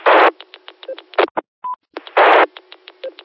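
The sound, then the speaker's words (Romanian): A short, steady electronic beep, the Ecolinc beep heard after letting go of the transmit button, sounds once in the middle, set between loud bursts of hissing radio static and a run of regular ticking clicks. No one speaks. “Auzi, mă, bipu?”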